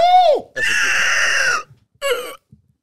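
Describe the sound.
A voice imitates a velociraptor screech: three loud, shrill, rasping cries, the first a short falling shriek, the second long and sustained, the third brief.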